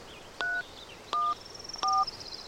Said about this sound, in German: Ich rufe ihn kurz mit meinem Handy an und frage ihn, ob er Zeit hat.